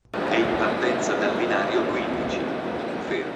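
Busy train station ambience at Milan's train station in Italy, where hundreds of refugees pass through each week on their way to Germany: a steady wash of crowd chatter and echoing hubbub with low rail rumble underneath, continuous and fairly loud, with no single voice standing out.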